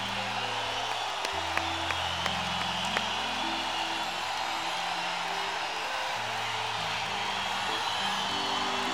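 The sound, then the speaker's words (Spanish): A large concert audience applauds and cheers steadily to thank a performer on stage, a dense wash of clapping lasting the whole stretch, with a few sharp whistles and a low sustained hum of music or crowd underneath. “Se entregó por completo en este escenario y se lo agradecemos con un aplauso.”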